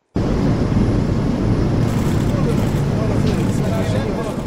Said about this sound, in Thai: ครับเสียงเครื่องบินที่นำผู้นำประเทศอาหรับเดินทางมากรุงริยาดของซาอุดิอาระเบียเมื่อปลายสัปดาห์ที่แล้วเพื่อเตรียมตัวก่อนการประชุมสุดยอดในสหรัฐนะครับ